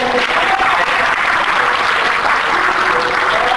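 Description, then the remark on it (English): A church audience breaks into sustained applause, giving God a hand clap for a baptism that morning, a dense, steady wash of many hands clapping at full volume with no gaps, a few faint tones humming underneath. “Give God a hand clap.”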